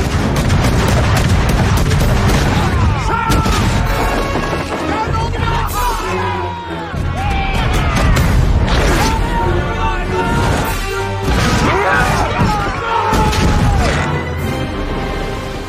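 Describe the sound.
Heavy cannon fire from ships side by side booms again and again in a dense, chaotic sea battle from the 2011 Spielberg film The Adventures of Tintin: The Secret of the Unicorn, loud, with crashes and shouting voices mixed into the constant roar.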